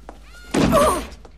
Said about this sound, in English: Miss Minchin crashes into the study door, which has been closed by the girls.